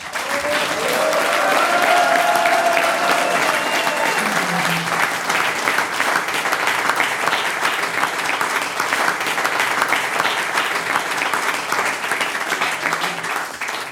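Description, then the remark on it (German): At the end of an evening's performance, the performers on stage applaud their audience. Sustained applause, a dense steady patter of many hands clapping for the full fourteen seconds, with a few faint cheers or whistles early on. “Der nächste Applaus kommt von der Bühne und die … schließt ja auch vor der Bühne an unser Publikum.”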